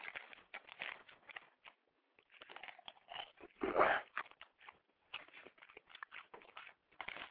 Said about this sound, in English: And we're witnessing right now a southern woman beating a dog. Let's listen closely.